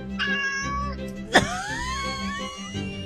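A cat meows twice, a short call followed by a longer, drawn-out meow that rises and sags in pitch, with a brief sharp knock between them over a low steady hum.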